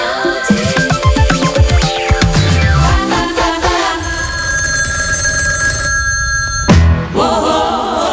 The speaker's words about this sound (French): Le réveil par téléphone.